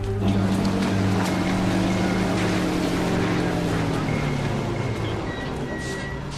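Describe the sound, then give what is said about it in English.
A heavy bus engine rumbles with a steady low drone, its pitch dipping as the bus slows and draws up at the bottom of an aircraft's mobile staircase, the idling hum continuing loudly throughout. “Another bus draws up close to the bottom of the mobile staircase.”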